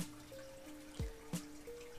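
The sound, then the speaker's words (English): A shot of liquor is poured into a small glass: a quiet, brief trickle with a faint ringing tone and two soft knocks or glugs partway through, with no voices. “Have me one shot because I gotta go.”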